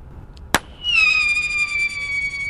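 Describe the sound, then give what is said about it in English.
A pyrotechnic screamer shell, fired from a special handgun to disperse birds, goes off with a sharp pop, then a loud, piercing shriek that sets in, dips slightly in pitch, and holds steady and buzzy with overtones until the end. “She also fires a variety of pyrotechnic shells from a special handgun. Each has a unique sound aimed at dispersing specific species. That's a screamer.”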